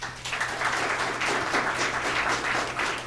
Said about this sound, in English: How many people, based on the performance last week, really have very serious questions about whether he could serve as Vice President of the United States. Applaud.